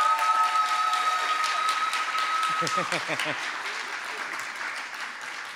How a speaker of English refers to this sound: A round of applause